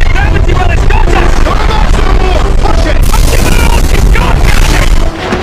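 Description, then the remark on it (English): The overheating warp engines of the starship Enterprise in a Star Trek film: a loud, steady roar with deep rumbling and wavering whine-like tones, plus bursts of crackling noise, holding strong for about five seconds before dropping slightly. “Did you hear the warp engines? Yeah. They were overheating, and that's Simon Pegg.”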